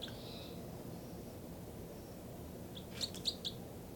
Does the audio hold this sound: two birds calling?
yes